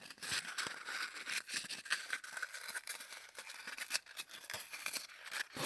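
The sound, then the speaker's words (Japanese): Rapid, irregular sticky pats and light peeling crackles of packing tape being patted repeatedly onto a sweater, fairly quiet, continuing steadily without any voices. “というわけで今回お送りしたのは、ガムテープでセーターなんかをペタペタとする音でした。”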